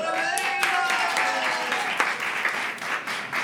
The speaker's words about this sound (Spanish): Un aplauso para Jerica y para Sandra por el detalle